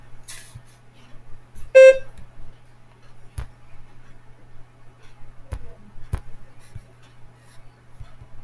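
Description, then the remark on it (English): A single short, loud electronic beep sounds near the start, signaling when to begin preparing a spoken response, followed by quiet stretches with a few faint clicks and a low steady hum in the background. “Begin to prepare your response after the beep.”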